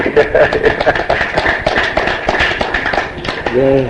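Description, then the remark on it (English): A crowd applauds the translator during a break, with dense, continuous clapping that stays loud and steady throughout, and a voice briefly rises above the applause near the end. “We're going to take a break, and I want everyone to give the translator an applause.”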